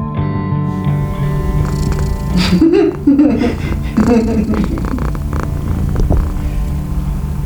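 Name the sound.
cat snoring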